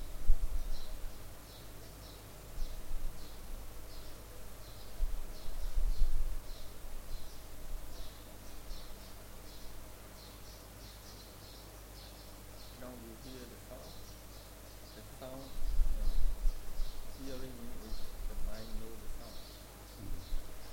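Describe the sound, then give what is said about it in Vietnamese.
Birds chirp and tweet steadily in the background, a continuous scatter of small high calls from several directions, with a low voice and some rumbling noise heard briefly partway through. “Quý vị nghe thấy tiếng chim hót xung quanh đúng không?”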